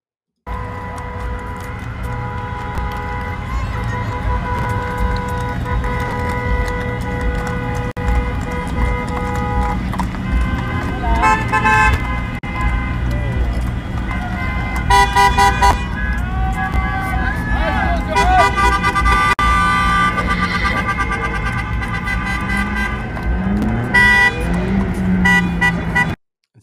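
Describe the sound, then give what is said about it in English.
A busy street scene where traffic is being blocked, with continuous traffic noise and sustained car horns blaring repeatedly, layered with crowd voices and shouting throughout, loud. “Blocking traffic.”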